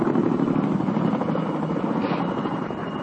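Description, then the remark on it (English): A steady, loud roar of resupply helicopter engines fills the whole stretch, a dense continuous drone with a faint rhythmic rotor throb and no break or voices; the choppers have been coming in about every 6 minutes for three days. “It's been almost one continuous din of the roar of helicopter engines.”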